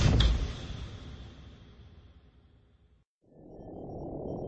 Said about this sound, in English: He typed in his code and went inside. The door hissed closed heavily behind him.